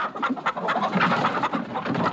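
A busy flock of chickens clucking and squawking, with overlapping bursts of calls running continuously throughout and no clear pauses.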